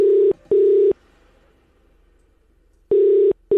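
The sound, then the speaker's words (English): An outgoing phone ringback tone as radio station Fresh FM calls a listener for its money call: two short steady beeps, a pause of about two seconds, then the double beep repeats, loud and clear with no one talking. “Are we really going to have a situation where this person does not pick up the call?”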